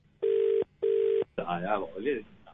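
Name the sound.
phone call ringing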